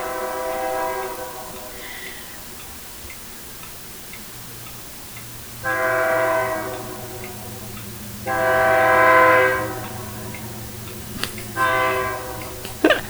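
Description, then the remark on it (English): A train rumbles past with a steady low drone while its horn blares in several long, loud blasts, the last cut short, over faint rhythmic clicking of the rails. “and here comes the fucking train, of course.”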